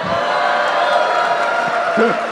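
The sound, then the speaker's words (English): A Boston crowd at Harvard: a loud, sustained wash of cheering and applause fills the whole stretch, dense and steady, with a few voices rising briefly above the roar near the end. “I just wanted to do that just to get that Boston crowd.”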